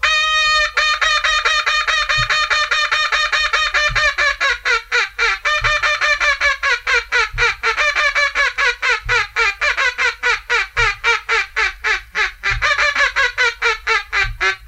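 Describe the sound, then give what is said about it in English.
A duck call is demonstrated, blowing a loud, descending high ball series of drawn-out quacks, then breaking off into a rapid, steady run of short come-on quacks, clear with no talking. “I'll demonstrate one high ball series and then break off into a come-on call.”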